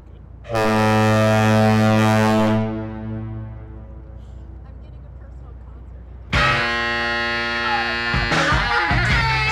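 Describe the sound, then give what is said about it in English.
A deep, loud foghorn of the Golden Gate Bridge blares in a long steady blast, its echo fading across open air, then a second horn sounds and keeps droning to the end, with lower tones mixed in. Recorded from a boat at the base of the bridge and from inside the bridge. “Thanks to Dave McCloy and Jim McKnight for letting me tag along to record those amazing horns from a boat at the base of the bridge and from inside the Golden Gate Bridge.”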